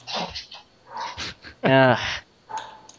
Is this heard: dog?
yes